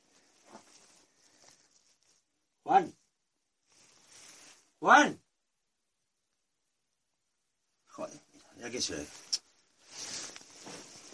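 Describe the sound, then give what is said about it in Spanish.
Two heavy, separate footsteps land about two seconds apart against near silence, followed by a cluster of quieter shuffling and scuffing noises, with faint voices mixed in toward the end. “¿Qué es eso? No, soy yo. Los pies.”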